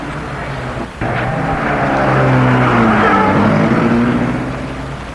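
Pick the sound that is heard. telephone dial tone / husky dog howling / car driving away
car driving away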